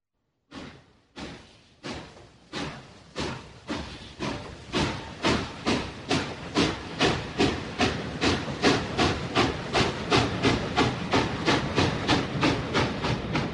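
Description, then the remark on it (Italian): A steam train slowly pulls away from a station, its rhythmic chuffs starting slow and spaced apart, then quickening and growing louder into a steady, hissing chug. No voices. “Il treno si allontana lentamente dalla stazione”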